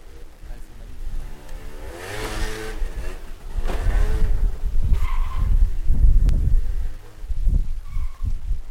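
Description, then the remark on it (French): A scooter engine revs, its whining pitch climbing and falling through several throttle bursts, with rough, gritty engine noise building louder toward the end. “Ici, il n'y a pratiquement que des scooters volés.”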